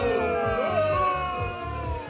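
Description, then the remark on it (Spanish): A loud chorus of drawn-out, sliding vocal tones like a crowd booing, sustained for about two seconds over a steady, rhythmic low thumping. “Un fuerte abucheo para Ovidio por mentiroso.”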